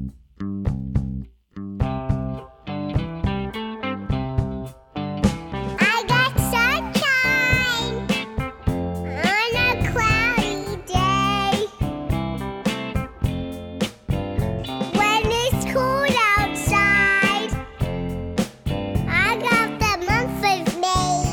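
Toddlers' voices sing an upbeat rock and roll golden oldie over steady instrumental backing, from the album, starting after a short instrumental intro and continuing loudly and clearly to the end.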